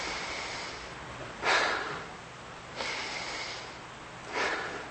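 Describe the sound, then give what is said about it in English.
Three forceful, deliberate breaths demonstrating breathing, each a short rushing burst of air, spaced a second or so apart against a quiet background, with no talking. “Aren't you glad you breathe? Aren't you glad you're breathing?”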